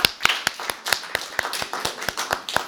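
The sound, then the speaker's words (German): A group claps together as applause for the Lord, in a steady, even rhythm, about a dozen sharp, crisp claps in under three seconds, with no voices over them. “Ein Applaus für den Herrn.”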